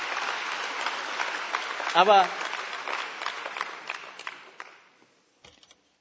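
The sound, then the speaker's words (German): An audience claps steadily for about five seconds, the applause thinning out before a few last scattered claps; a man briefly speaks over it near the start. “Okay, ihr dürft schon mal klatschen.”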